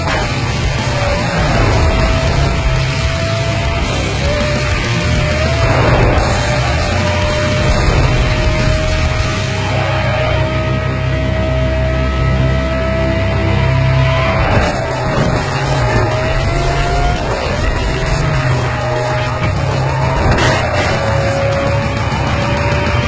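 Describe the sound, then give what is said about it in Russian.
A loud, continuous car engine roars and whines throughout, its pitch holding steady and dipping briefly every few seconds as if shifting gears, with no voices present. “Кстати, я забыл же приглушить вой мотора, чтобы мой голос не глушился.”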